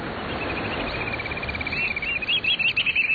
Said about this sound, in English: We're crouching on a rocky shoreline of the Pacific Coast, hearing the piping call of the black oyster catcher, a stocky black bird with bright red eyes and a stout orange-red bill, perfectly suited for jabbing limpets and mussels.